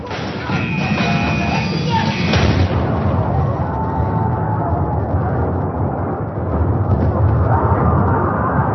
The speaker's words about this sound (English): The Indianapolis lurched as the first torpedo struck the bow end on the starboard side, the explosion decimating the front of the ship. Moments later, a second torpedo struck further down amidships.